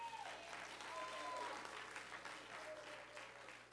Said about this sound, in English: To these deacons who confidently carry the covenant of Christ, and to these ministers of music, why don't you give them one more hand?